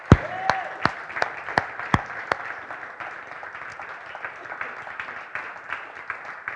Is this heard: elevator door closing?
no